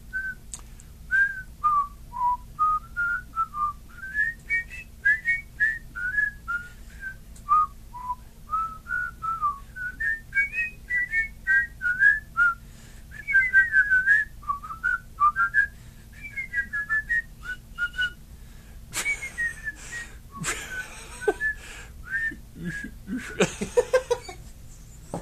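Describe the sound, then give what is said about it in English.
A person whistles a bouncy, wavering melody as a Mario tribute for Mario's 20th birthday, note after note for about twenty seconds, then the tune gets choppy and is broken up by breathy, noisy bursts near the end. “I can't whistle all of a sudden.”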